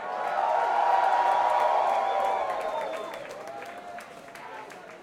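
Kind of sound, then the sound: crowd, audience applause and cheering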